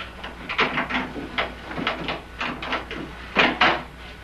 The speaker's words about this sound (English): But he keeps his door locked. Try this key. This won't be any good if it's yours. Have a shot. You never know.